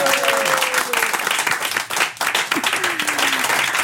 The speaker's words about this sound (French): Voilà. Et on applaudit pour tout le monde.